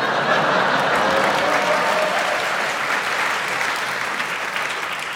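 A crowd applauds steadily, a dense wash of many hands clapping at an even, loud level for about five seconds, fading slightly toward the end.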